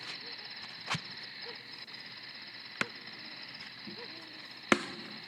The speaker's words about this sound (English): So picture this scene, very serene at night, and as Mary and Joseph are there, you hear the sound of crickets.